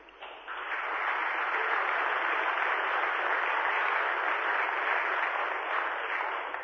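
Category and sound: crowd, warm applause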